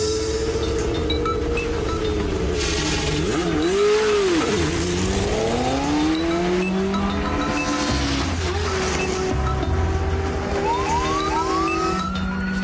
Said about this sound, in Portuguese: Eu já estava preocupado. Pensei que eles estavam dormindo. É uma viatura da polícia.